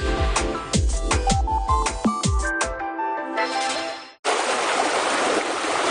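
flowing water stream

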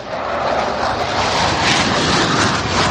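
fighter jet taking off

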